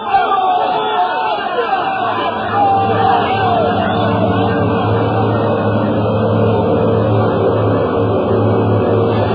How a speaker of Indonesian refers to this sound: Suasana di sekitar tepian sungai Brantas malam itu seketika menjadi hingar-bingar. Suasana menjadi gaduh riuh oleh bunyi orang-orang berkelahi.